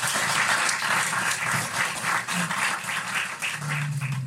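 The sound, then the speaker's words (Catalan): A crowd applauds steadily as two performers are introduced at a recital of Vicent Andrés Estellés' poetry, many hands clapping in a dense, continuous wash of sound that stays loud throughout, with a faint low hum appearing near the end. “Un fort aplaudiment.”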